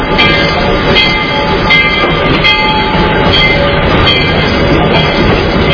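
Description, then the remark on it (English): A steam locomotive whistle blows steadily and loudly, its sustained tones riding over the heavy, continuous rumble and hiss of the engine for several seconds, with no talking. “Don't be shy on the whistle.”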